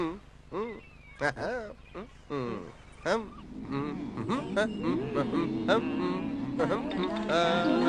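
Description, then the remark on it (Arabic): Seagulls call with harsh, nasal squawks, a few separate cries at first, then swelling into a dense, overlapping chorus of many gulls that continues loudly to the end. “طائر نورس ويخاف الماء؟”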